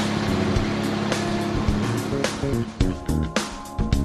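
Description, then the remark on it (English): A heavy diesel machine rumbles steadily as a travel lift moves a barge, turning tight to head down the driveway; its low engine drone is joined in the second half by several sharp clanks and thumps. “Turn it right around tight, and we'll head down the driveway. I'm moving a barge.”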